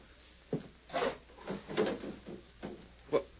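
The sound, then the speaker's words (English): A wooden table drawer is pulled open in a few quick, rattling scrapes and knocks, five short bursts over a few seconds, fairly quiet and with no voices. “take a look at that table drawer.”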